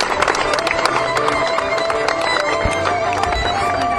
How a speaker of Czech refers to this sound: Přítelnice k nám poslala stárkovský pár. Zatleskejte